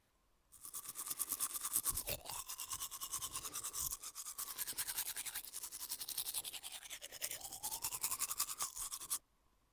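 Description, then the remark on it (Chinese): Rapid, steady scrubbing strokes of someone cleaning and rinsing their mouth in a bathroom, a brisk wet brushing rhythm that runs for about nine seconds without pause, with no voices. “您稍等一下，奴先爬着去卫生间漱完口，就来服侍主人”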